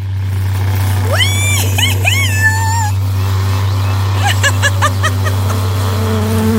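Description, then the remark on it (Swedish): A steady, loud low buzzing drone of a vibrator runs throughout, while a cat meows several times over it in short rising and falling cries. “Vill du också åka på en surrande åktur?”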